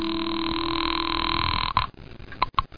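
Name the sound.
telephone being dialed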